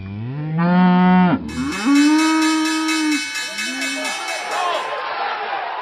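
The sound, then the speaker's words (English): Elite purebred Red Angus cattle in Canada moo loudly, several long, droning calls following one another, with a shorter low moo near the end and faint background noise. “Selling 1,000 head of elite purebred Red Angus cattle.”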